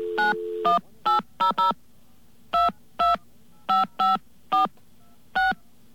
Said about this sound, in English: we're going to call 1-800-CALL-INFO